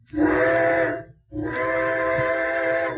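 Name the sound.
train whistle blowing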